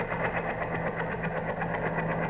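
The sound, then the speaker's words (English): A helicopter approaching to land on a front lawn, its rotors chopping in a fast, steady rhythmic thumping over a continuous mechanical engine drone, holding at an even, fairly loud level throughout with no voices. “They're all ready to land on the front lawn right now. Brenda. Jim, what is the matter with you? Who are you talking to? Listen, helicopter.”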